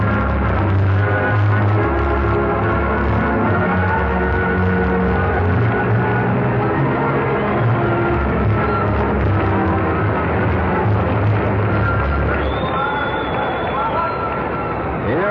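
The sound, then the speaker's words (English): A packed convention floor roars in a loud, steady demonstration, running almost 10 minutes as Mr. Hoover looks on, massed voices and cheering blending with musical tones, and a thin high whistle-like tone rises near the end. “Now let's just turn all the microphones on and listen to the floor.”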